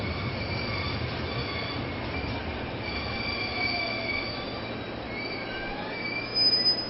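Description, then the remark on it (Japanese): A Kansai Airport Rapid Service train bound for Osaka and Kyobashi rolls steadily into track 3 of a station in Japan, wheels squealing in long high-pitched tones over a constant low rumble, with a brief louder surge near the end as it draws close. “皆様、まもなく3番線に電車が到着いたします。”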